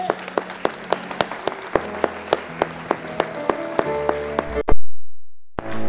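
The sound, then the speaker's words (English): A crowd claps hands in a steady, rhythmic beat over sustained music as a choir comes in, the sharp claps evenly spaced and fairly loud, before the sound cuts off abruptly near the end. “Would you clap your hands as they come?”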